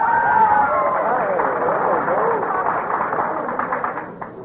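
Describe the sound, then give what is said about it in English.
An audience erupts in loud, high-pitched screams and excited shouting at the mention of Woonsocket, Rhode Island, holding steady for several seconds before tapering off slightly at the end. “You said Woonsocket, Rhode Island, and a lot of people screamed.”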